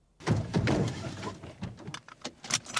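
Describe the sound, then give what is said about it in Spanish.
Rustling and shuffling as someone climbs into a car, followed by a few muffled thunks and sharp clicks like a car door shutting and latching. No one speaks. “Venga, sube al coche que, cogiendo la carretera de La Coruña, nos ponemos en menos de una hora.”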